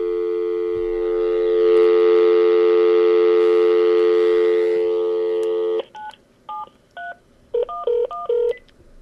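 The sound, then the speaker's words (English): A steady telephone dial tone hums for several seconds, then stops and gives way to a quick series of loud keypad dialing beeps, short two-tone presses in an uneven rhythm. “Please dial your password and press pound.”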